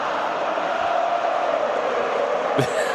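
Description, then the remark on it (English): A large stadium crowd sings together as the game ends in the fourth quarter, in a steady, unbroken wash of many voices, holding an even loudness throughout, with a brief sharp knock near the end. “The crowd are singing because they know the game's over.”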